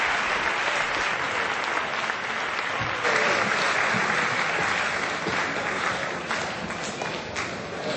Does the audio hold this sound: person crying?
no